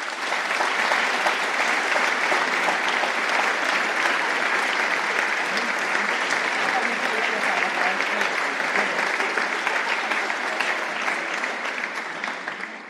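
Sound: thunderous applause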